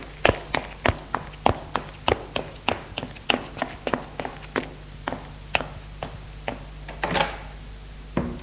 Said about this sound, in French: La porte se referme. Il descend les escaliers.